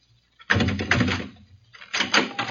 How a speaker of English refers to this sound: Now open that door and step back.